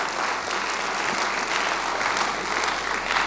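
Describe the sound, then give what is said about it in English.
An audience claps steadily for a few seconds, a dense, even patter of many hands with no voices over it and no break in the applause. “Kind of sad that I have to ask for a hand clap there, but it makes me feel good anyway.”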